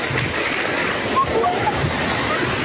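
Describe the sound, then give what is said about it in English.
Loud, continuous rush of tsunami floodwater surging, churning and sloshing through streets near Nuku'alofa, the capital of Tonga, after the Hunga Hapai volcano eruption, a dense roar that never lets up, with faint voices buried in the noise. “They record the tsunami as it surges through streets near the capital Nuku'alofa.”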